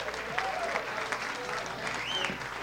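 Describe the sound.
A crowd applauds steadily, a dense, even wash of many hands clapping at moderate loudness, with faint voices and a few whistle-like tones rising over it.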